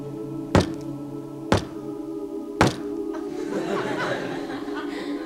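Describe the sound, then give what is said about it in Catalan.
Three sharp knocks on a wooden table during a seance, spaced roughly a second apart, followed by a soft wash of murmuring and stifled laughter from people. “Si la resposta és sí, fes un cop. Si la resposta és no, fes dos cops.”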